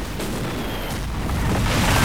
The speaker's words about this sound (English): narrowly avoiding each blast from the mounted gun as it rocks the village with almighty explosions.